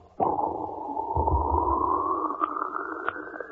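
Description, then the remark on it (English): A voice imitates a seltzer bottle: a sudden, steady, wet spraying hiss that starts abruptly and runs for over three seconds, creeping slightly upward in pitch, with a brief low gurgle partway through. “Make it deeper and wetter, and we have a seltzer bottle.”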